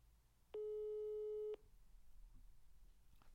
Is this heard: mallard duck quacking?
no